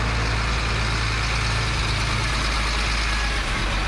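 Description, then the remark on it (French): Heavy transport truck engines idle and rumble loudly at the border crossing between Burundi and the Democratic Republic of the Congo, a constant deep drone with dense road noise that stays steady throughout, with no one speaking. “Gros camions de transport sur la frontière avec la RDC poussent les quelques handicapés burundais et congolais à se déplacer dans un autre endroit pour l'interview de VOA Afrique.”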